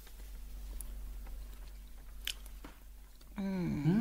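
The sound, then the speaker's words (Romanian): Soft, close-up chewing with faint crunchy bites and moist mouth noises, fairly quiet and irregular, before a voice starts speaking over it near the end. “Nu așa trebuie mestecată.”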